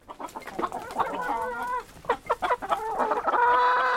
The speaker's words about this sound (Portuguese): Perto dali, um cacarejo desperta a atenção dos galos.